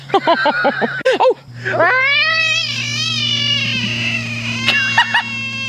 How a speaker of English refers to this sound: They were near a pond and they caught a huge frog, big, like almost like the size of a grapefruit. But the weird thing is the frog in the net sounds like a cat.